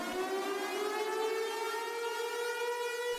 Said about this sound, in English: So finally, I get that situation stopped, and what happens next? The city decides to test the tornado siren right behind the house.